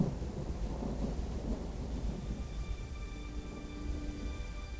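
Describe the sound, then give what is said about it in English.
Rain begins to fall at Lover's Lane, steady, with a low, rumbling roll of thunder underneath, a broad continuous wash of storm noise at moderate volume, with no voices. “At Lover's Lane, David and Margaret are kissing when it starts raining.”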